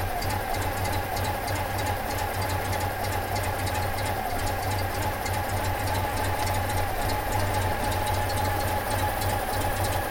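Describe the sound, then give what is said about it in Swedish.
A small two-cylinder boxer engine of a stationary Citroën 2CV idles steadily, a constant low throbbing chug with a faint rattly buzz on top, unchanging for the whole stretch, with no voices. “Stillastående på tomgång låter den så här.”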